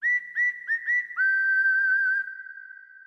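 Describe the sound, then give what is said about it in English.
A bright, clear whistle sounds alone: four quick rising chirps in a row, then one long steady note that holds for about a second before trailing off. “Follow the whistle down to PC Richard in the tri-state area”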